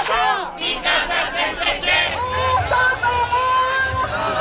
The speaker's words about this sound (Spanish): Ni gente sin casa, ni casas sin gente, gritaban en Valencia en una de las manifestaciones que han recorrido este Día del Trabajo en España.